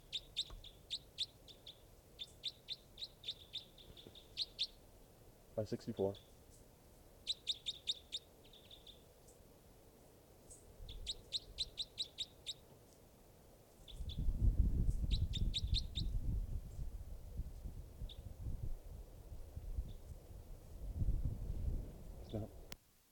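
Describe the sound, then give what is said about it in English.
High, rapid chirps from bird number 564, being tested, come in several short bursts separated by pauses, while a low rumbling noise swells underneath during the second half. “Testing now, bird 564.”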